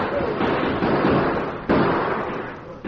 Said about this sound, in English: The Lone Ranger and Tonto returned their fire. For 5 minutes, the forest echoed with the roar of gunshots.